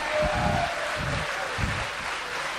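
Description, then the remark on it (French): An audience gives a double round of applause to young people arriving at 10 a.m. The clapping is a dense, steady roar, with heavy rhythmic thumps pulsing underneath roughly every half second or so throughout. “Un double applaudissement parce qu'il est 10h et ils sont debout, hein.”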